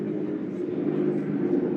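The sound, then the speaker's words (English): A steady, droning rumble of two military-grade helicopters passing overhead above a beach about 100 yards from the Hermosa Beach Pier, loud and continuous throughout with a dense low-pitched throb and no pauses. “By the way, military-grade helicopters, two of them, are going by above the beach right now.”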